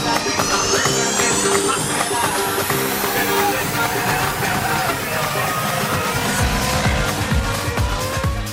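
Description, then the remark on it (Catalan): Formula single-seater racing cars scream around the Interlagos circuit, their high engine whine climbing steadily in pitch over a dense, loud wash of roaring noise and crowd murmur that never lets up. “aquesta samba combinada amb soroll de monoplaces, combinada amb circuit d'Interlagos, combinada amb possible pluja i combinada amb una graella on McLaren és el gran convidat.”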